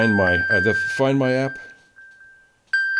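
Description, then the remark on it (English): A phone's steady, high electronic locator tone, set off from the Find My app on an iPad to find the phone, sounds continuously, joined by a brief louder burst near the end. A person talks over it during the first half, then the tone carries on alone. “So, still playing the fucking sound.”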